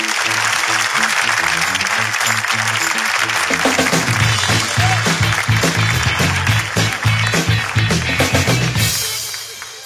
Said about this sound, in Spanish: ¡Un fuerte aplauso!